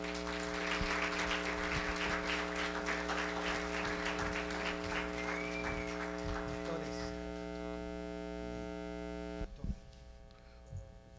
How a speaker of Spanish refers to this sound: Gloria al Señor, nos ponemos de pie para recibir la palabra del Señor. Y recibimos, gloria al Señor, con un aplauso a nuestros hermanos.